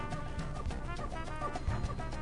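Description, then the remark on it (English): A bird sound effect played on WCWP Web Radio in New York clucks in a quick, busy flurry of short calls, fairly loud throughout, with no voices alongside. “Get that bird out of here.”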